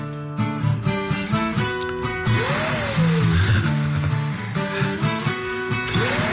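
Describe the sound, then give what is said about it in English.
A rhythmic music track plays, then a vacuum cleaner's loud whooshing roar kicks in partway through, with a swooping rise-and-fall 'woohoo' tone riding over the beat in time with the song, from a viral social media clip. “Not long ago, we had the vacuum cleaner that did the woohoos brilliant.”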